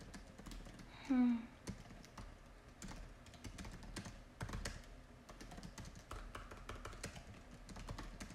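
Typing on a computer keyboard while finishing work emails: a steady stream of quick, irregular key clicks running throughout, with a brief squeaky creak near the start.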